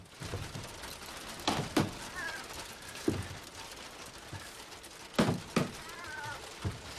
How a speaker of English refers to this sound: He looks down and then bangs on the floorboards.